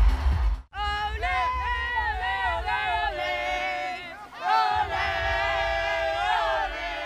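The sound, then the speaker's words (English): A huge arena crowd of about 100,000 roars and cheers as Team Ireland enters at the Special Olympics World Summer Games opening ceremony in Abu Dhabi, with loud, sustained shouting voices that swell and waver, briefly dipping twice before surging back up and holding strong to the end. “Ireland have entered the arena to a massive cheer here in Abu Dhabi.”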